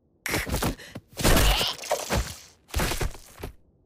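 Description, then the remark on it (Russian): A ceramic mug drops and shatters with a loud crash, followed by a scatter of clattering, tinkling shards over a few seconds. “Кружка упала.”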